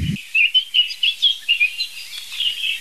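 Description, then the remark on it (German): Birds chirp repeatedly outdoors in quick, bright bursts, a steady series of high tweets with a faint low thump at the very start and no talking. “Ich würde mal sagen, in mir ist 50-50, dass das gelingt, weil klassischerweise, wenn ich sowas versuche, sind die Vögel entweder gerade still oder gerade woanders oder ich bin nicht in der Lage, die zu hören.”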